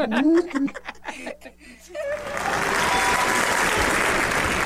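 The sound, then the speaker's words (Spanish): Voices and laughter give way to a burst of loud, steady applause from a crowd after the narration of a children's tale, a dense wash of clapping that fills the last couple of seconds and keeps going to the end. “Un gran aplauso al cabrito de los buñuelos”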